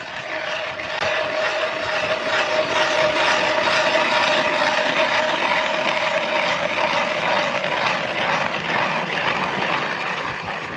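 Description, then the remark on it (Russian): Amateur fishermen drill an ice-fishing hole with a powered ice auger in river ice about one and a half metres thick, near where the Oka flows into the Volga at Nizhny Novgorod, its motor holding a steady, loud droning whine over a constant gritty grinding for about ten seconds, with no voices. “Сейчас они начинают бурить лунку.”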